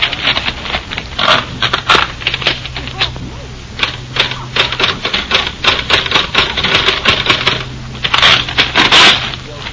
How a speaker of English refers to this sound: Typed. And there's a typewriter.